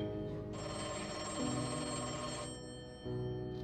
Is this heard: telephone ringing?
yes